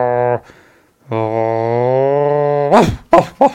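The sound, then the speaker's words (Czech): A voice imitates a dog's growl to illustrate the Czech word "vrč" (growl): a short low rumble, a pause, then a longer steady droning growl, ending in a few quick rough bursts. “Ale co třeba taky vrč, jo, když pes vrčí.”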